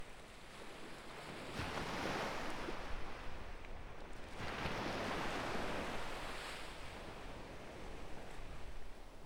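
Ocean waves break on a beach in two broad swells of hissing surf, rising and fading over a steady wash of water and wind, with no voices.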